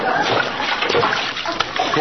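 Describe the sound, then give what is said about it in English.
Diced potatoes drop into a pot of water with a burst of splashing and sloshing, fairly loud, churning busily for about two seconds. “Now stand back. I don't want to splash anybody.”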